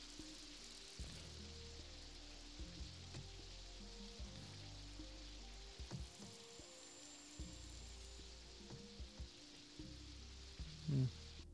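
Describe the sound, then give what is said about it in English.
Steady rain hisses throughout, a soft continuous patter over a low rumbling engine-like hum, with a few louder knocks near the end and no talking. “And it's raining.”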